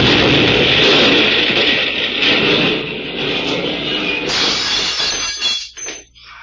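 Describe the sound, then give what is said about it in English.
A loud, roaring blast as an automobile blows up just after its occupants get out fills several seconds with dense noise, then breaks into crackling, glassy debris and rattling bursts before dying away. “I got out of the car, but the explosion knocked me flat.”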